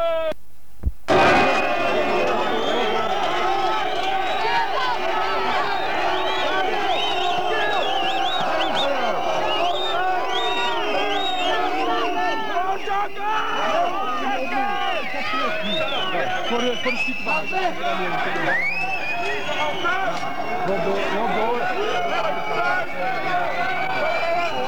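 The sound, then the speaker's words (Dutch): A crowd of hundreds of people, about 100 metres from the building, fills the scene with a dense, steady roar of overlapping voices, scattered shouts and whoops rising above the babble, after a sharp thump near the start. “Er staan nu honderden mensen om ons heen.”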